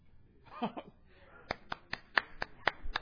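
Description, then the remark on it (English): About eight sharp, scattered hand claps from audience members at a church service ring out at an uneven pace after a brief murmur of voices, sparse clapping rather than full applause. “You can all clap.”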